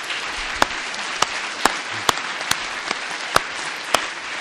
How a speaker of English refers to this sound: I mean, this is, in a way, one of those moments when you want to applaud the people who put it on, Jane Portal and Jan Stewart and the gallery as a whole, before we even start our proceedings. So a big hand.